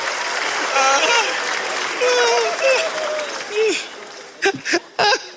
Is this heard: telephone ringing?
no